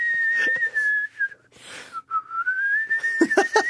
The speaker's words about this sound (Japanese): そうですね、シャボン玉おじさんに会いたかったら口笛を吹いて呼んでくれと結構簡単に来るな。あ、もう呼ばれた、もう呼ばれた。